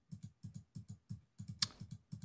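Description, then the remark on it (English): Rapid, loud clicking in quick paired bursts, like fast presses on a keyboard or mouse, with one sharper, brighter click partway through and no voices, made while playing a small computer game. “Clicking. It's very loud.”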